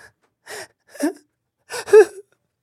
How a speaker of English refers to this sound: There's just open weeping echoing through this room. A sorrowful sound, but in this place, it is quite joyous.